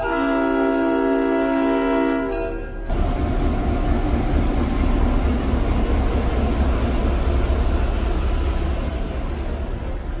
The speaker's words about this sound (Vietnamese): Con tàu xình xịch rời ga và đổi hướng đi về miền cao nguyên.